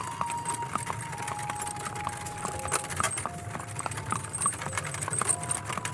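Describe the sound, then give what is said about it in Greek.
Steady clip-clop of hooves from a cart drawn by an old white horse on a hard road near the sanitation service, where the road begins by the river, a regular trotting rhythm with faint jingling of harness and a low street rumble underneath. “Υπήρχε μια μακριά σειρά από αυτά τα κάρα κοντά στην υπηρεσία καθαριότητος, εκεί που αρχίζει ο δρόμος κοντά στο ποτάμι.”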